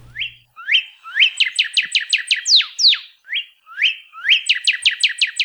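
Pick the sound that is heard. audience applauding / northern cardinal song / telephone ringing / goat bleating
northern cardinal song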